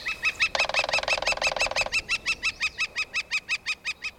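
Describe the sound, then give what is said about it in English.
A young fledgling flicker calls in a fast, even series of sharp notes, about a dozen and a half, with a harsher buzzy chatter overlapping the first half, fairly loud. “The best thing you can do for the young flicker, and other fledgling birds too, is to give the bird some space.”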